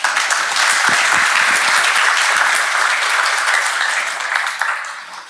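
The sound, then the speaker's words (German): Steady applause from an audience for the presenter of a talk on the legal framework of AI and ChatGPT, a dense wash of many hands clapping at fairly even loudness for about five seconds, tapering slightly at the end, with no one speaking over it. “Und ich bitte um einen Applaus für unseren Vortragenden.”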